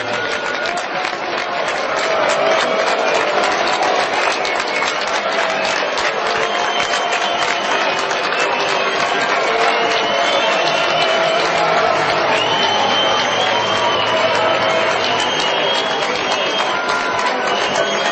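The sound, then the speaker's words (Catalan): An opera house audience at the Gran Teatre del Liceu applauds and whistles at the Prince and Princess of Asturias in a dense, steady roar. Shrill whistles streak over continuous clapping and crowd noise for the whole stretch, loud throughout. “És una xulada o aplaudiments, depèn com el vulguem veure, contra els prínceps d'Astúries”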